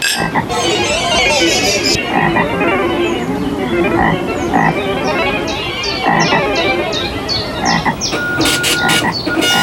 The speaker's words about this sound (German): Empfehlung für kleine Menschen ist durchaus zum Baden geeignet, sofern man sich nicht von den Fröschen gestört fühlt hier.